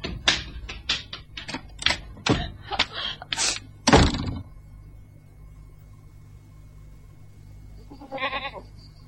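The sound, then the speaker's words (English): A goat gives a single short, wavering bleat near the end, after several seconds of sharp, rapid clattering knocks and a quiet pause. No one speaks. “I hope we'll get the brute before it gets the goat.”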